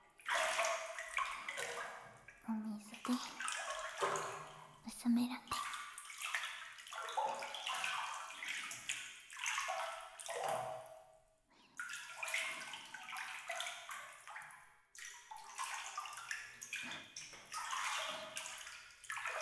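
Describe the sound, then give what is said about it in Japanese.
Hot bath water being poured over someone's shoulders, sloshing and pouring in uneven splashy bursts, with brief drips and pauses between gushes, fairly loud and alone with no voices. “水の音、気持ちいいっすよね。”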